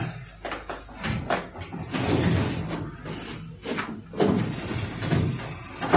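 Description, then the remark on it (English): A filing cabinet drawer is pulled open to get a personal file, with a broad, rumbling metallic slide, followed by a second scraping run of the drawer and some light clunks and rattles. “Do you mind moving your chair so I can get to my filing cabinet, Constable?”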